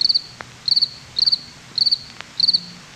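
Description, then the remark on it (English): Crickets chirping in steady, evenly spaced bursts of rapid high trills, five chirps repeating about twice per second over a quiet background, with no one talking. “Yeah, those are crickets”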